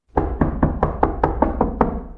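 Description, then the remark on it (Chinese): A girl trapped inside a locked cold-storage room pounds hard on its door with her hand, about eight heavy, evenly spaced thuds in quick succession, loud, with no voices. “个女仔发现到之后，佢响里边一边用力拍门，一边好大声咁嗌救命啊！”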